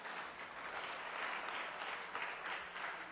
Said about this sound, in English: Big finish. Very good. There you go. You could applaud yourself.